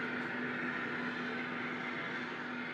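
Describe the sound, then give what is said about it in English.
The sugar beet factory in Torrington, owned by Western Sugar Cooperative, hums steadily during its busy season, a constant low drone with one clear sustained tone over a dense wash of machinery noise, unchanging throughout and with no voices. “Now is the busy season for the plant, and you can hear it hum.”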